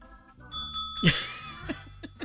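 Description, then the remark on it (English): A hand bell is rung once as a signal during a confession game, fairly loud, its bright metallic tone lingering and slowly fading, with a few softer knocks afterward. “raise your hand, give me a signal, and if I've done it, I'll ring a bell.”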